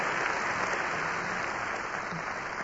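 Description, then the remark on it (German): A large crowd at a speech applauds the translators steadily and energetically, countless hands clapping in a dense, continuous wash of sound that stays loud and even throughout, with no voices standing out. “Ja, das ist ein kräftiger Applaus.”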